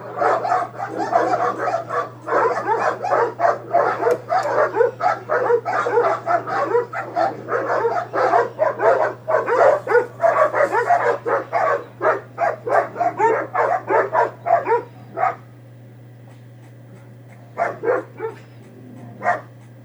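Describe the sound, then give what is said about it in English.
Several dogs bark furiously and continuously behind a green gate, overlapping yaps and deeper woofs in a frantic back-and-forth, thinning to scattered barks near the end over a steady low hum. “So let me just, when you watch the clip, pretend that the green gate that you're seeing is like the social media platform.”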